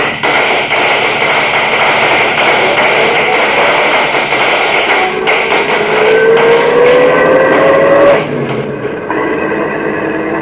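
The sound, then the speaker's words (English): A car engine roars and climbs steadily in pitch as it accelerates away from an ambush, loud, amid a dense clatter of sharp cracking shots, before the roar cuts off abruptly. “Step on it. We're in an ambush.”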